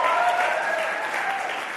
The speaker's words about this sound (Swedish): Är de inte fina? Ge dem en applåd och se vad som händer med deras leende.